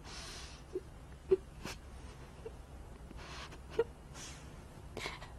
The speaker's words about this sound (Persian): گریه نکن.